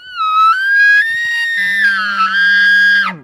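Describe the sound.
A hunter, an outfitter at the Quinlan Ranch in Chama, New Mexico, imitates an elk bugle by voice: one loud, piercing whistle that rises and holds for about three seconds, a low raspy growl joining halfway before the call breaks off sharply.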